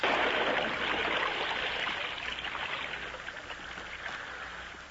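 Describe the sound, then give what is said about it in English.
Swift stream water rushes and gurgles steadily, a dense, continuous flowing noise that stays fairly loud throughout, easing only slightly toward the end, with no voices. “Now, fighting sword, vanish forever in swift water.”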